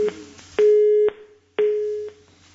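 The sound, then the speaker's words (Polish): A telephone line tone of an incoming listener call to a radio phone-in pulses on and off in steady half-second beeps, clear with nothing else around it, the last beep trailing away. “Spróbujmy odebrać pierwszy telefon.”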